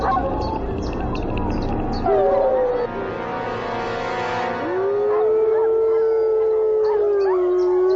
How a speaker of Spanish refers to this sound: Pero enseguida responden con los aullidos de defensa, igual que habría hecho cualquier manada salvaje.